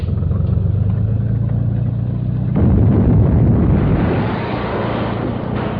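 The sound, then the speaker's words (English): A steady low engine drone runs until a wrecking ball slams into a house midway, bursting into a loud, broad crash and a sustained rumble of breaking material that slowly settles. No one speaks. “How did you know I heard it when the ball hit the house?”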